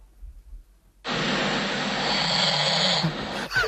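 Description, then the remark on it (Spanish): A single long, harsh snore rasps steadily for about two and a half seconds after a brief quiet moment, loud, with no talking. “Bueno, luego podemos entrar si quieres en el mundo de en lo que nos ha dejado a los ronquidos que estábamos ronquidos ahí.”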